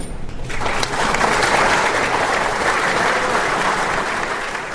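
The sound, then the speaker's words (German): Loud, sustained applause from a large audience in Regensburg as former Chomutov museum director Stanislav Diet walks to the podium to receive the Sudetendeutscher Volkstumspreis from the Sudetendeutsche Landsmannschaft, a dense roar of clapping hands that swells in the first second and holds steady, with no voices standing out. “Bei seinem Gang aufs Podium wurde der ehemalige Leiter des Museums von Chomutov, Stanislav Diet, von tosenden Beifall begleitet.”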